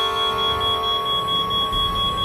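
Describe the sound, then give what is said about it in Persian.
A long, loud horn blast holds one steady, piercing tone for the whole stretch without a break, with a low rumble underneath and no voices. “پس گوشاتونو بگیرین که یه دست بوق بلند و کشیده تو راهه.”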